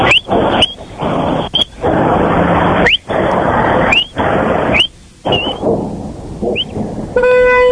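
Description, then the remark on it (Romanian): Loud, rough squealing and hissing bursts with brief gaps at an intersection, ending in a short, bright honk from the horn of a small Matiz car. “Nu, e un matiz. Asta era claxon de matiz.”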